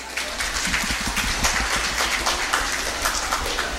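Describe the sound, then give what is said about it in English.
An audience claps steadily for several seconds as the Chancellor of the UP Open University is introduced at a program launch, a dense, even patter of many hands with no voices breaking through. “A round of applause for Dr.”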